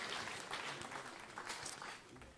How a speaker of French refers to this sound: Alors on peut l'accueillir avec notre acclamation.